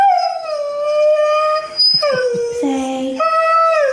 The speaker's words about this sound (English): the talking Siberian Husky, tells his owner, I love you. Here is the dog talking. You tell me what you think about this.